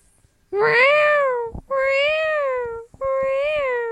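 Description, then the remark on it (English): A cat in heat yowls three times in long, drawn-out wavering cries, loud, with only brief breaths between each insistent call. No one speaks. “I hear that cat. What is it in that heat?”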